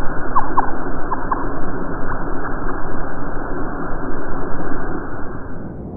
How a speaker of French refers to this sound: Les chants de baleines sous l'eau ?